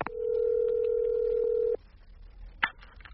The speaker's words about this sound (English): 8:40, phone my secretary at her home.